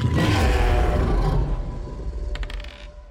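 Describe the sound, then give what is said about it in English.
A huge, deep roar of the Tarrasque, a giant monster, bursts out loud, rumbling with heavy low growl and breathy noise, then tapers into grinding, creaking rumbles before fading out. “So you'll hear you the Tarrasque roars, and then Keithery roars at it in its mouth.”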